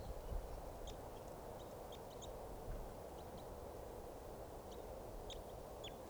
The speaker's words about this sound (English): Bird chittering there in flight.